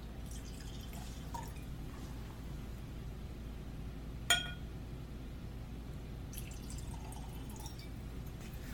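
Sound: glass clinking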